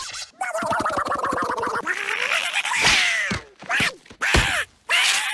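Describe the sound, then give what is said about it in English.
A voice does a raspy, sputtering Donald Duck impression, starting with a rapid buzzing rattle and then breaking into several squawky, rising-and-falling quacks separated by short pauses. “The big quacker himself, Donald Duck.”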